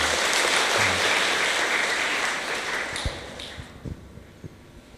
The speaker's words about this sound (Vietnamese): Cho một tràng vỗ tay đi quý vị.